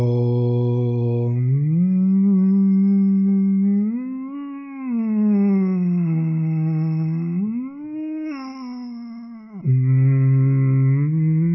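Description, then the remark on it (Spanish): A voice imitates an ambulance siren, holding one long, loud, unbroken tone that glides slowly up and down in pitch, wave after wave, with no talking around it. “Puede imitar el sonido de una ambulancia.”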